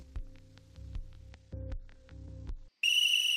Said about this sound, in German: Vom Teleschirm kam ein ohrenzerreißendes Pfeifen. Ein langer Dauerton.